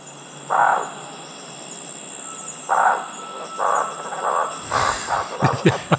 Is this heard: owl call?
yes